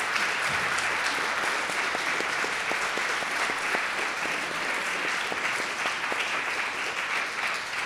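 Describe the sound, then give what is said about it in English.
An audience applauds steadily for the author panel, including Helen Fielding, at a Sotheby's book event. A dense wash of many hands claps at a loud, even level for the whole stretch, with a few sharper individual claps standing out. “But could you please join me in giving a huge round of applause”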